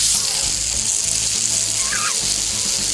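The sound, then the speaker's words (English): A steady, crackling sizzle of corned beef hash frying in a hot pan, loud, with a constant bright hiss and a few faint pops running throughout, no voices. “It's like frying bacon.”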